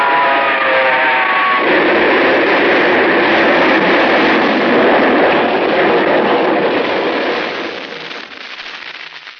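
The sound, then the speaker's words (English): A train whistle sounds briefly, then a loud, steady roar and clatter of a train engine rushing along the track fills the scene before easing off near the end. No one speaks. “The light on the engine picked him up a quarter of a mile away, and I whistled.”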